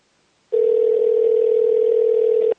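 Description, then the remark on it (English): A steady, unbroken telephone dial tone sounds clearly for about two seconds, loud, then cuts off abruptly as a phone call to a friend is placed. No voices are heard. “I'm going to give him on the phone here, and then we're going to talk about the pizza experience.”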